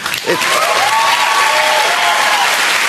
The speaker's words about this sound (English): Yeah, asshole audience is applauding, but they applaud everything that's insane.